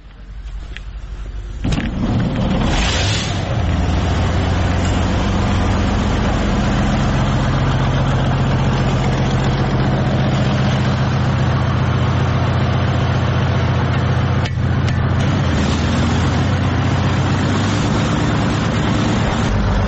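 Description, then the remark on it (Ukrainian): A self-propelled artillery gun's heavy engine, filmed in action on the Bakhmut front, starts up with a burst and settles into a loud, steady diesel rumble that drones on without a break, with no voices. “Машина, мощная машина.”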